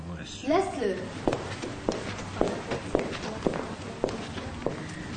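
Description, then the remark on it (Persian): Steady footsteps of a café owner walking toward customers, about eight even, moderately loud treads at a walking pace, following a brief murmur of voice at the start, with a soft background hum throughout. “صاحب کافه به طرف اونا میاد.”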